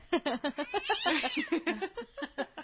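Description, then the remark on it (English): A human voice mimics an angry cat with a quick run of growly, yowling bursts, swelling into one long wavering caterwaul midway before choppy hisses and snarls resume, fairly loud. “I thought I was going to do Angry Cat on you. We can still do it.”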